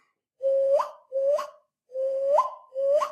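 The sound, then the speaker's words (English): Someone imitates a bird call with their voice: four repeated whistly notes, each holding a steady tone then jumping sharply upward in pitch, evenly spaced with short gaps, no speech. “I don't know what bird it is, but it sounds like a bird.”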